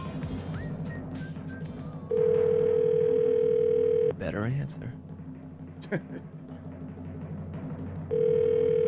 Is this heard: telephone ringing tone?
yes